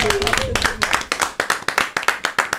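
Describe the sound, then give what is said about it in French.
A television studio audience claps for a singer after her performance, starting as a dense burst of applause and thinning into a steady rhythm of distinct, fairly loud claps over a couple of seconds. “Est-ce qu'on peut l'applaudir encore?”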